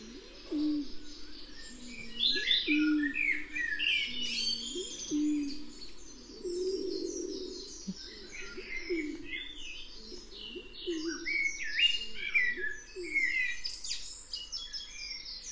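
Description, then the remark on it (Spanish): A rabiche pigeon, endemic to La Gomera, coos steadily in low, repeated phrases, while several La Gomera blackbirds sing varied, fluting songs behind it throughout, with no one speaking. “Esta es la paloma, pero detrás tenemos a todos los mirlos, a unos pocos de los mirlos de La Gomera, desplegando sus dotes vocales.”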